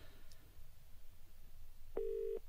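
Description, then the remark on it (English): A single short burst of a steady telephone ringing tone, as heard down the line while a call to Annabelle goes unanswered, sounds near the end over a low background hum. “Who are you ringing?”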